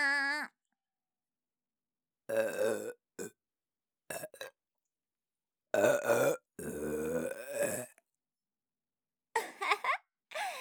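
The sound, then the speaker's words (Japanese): A series of loud burps, some short and some long and drawn out, coming in separate bursts with silent pauses between them. “ザーメンゲップ、くっせって”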